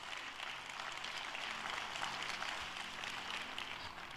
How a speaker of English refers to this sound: All the non-pot smokers clapping. Preach it, Pastor.